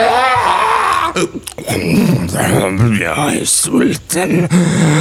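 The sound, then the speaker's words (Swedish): A person roars and groans as if in pain, a loud, strained voice rising and falling in drawn-out bursts across several seconds with brief breaks between cries. “Jag hör någon vrålar av smärta i bakgrunden.”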